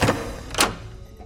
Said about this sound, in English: What is it? A door. What is inside? Let's find out.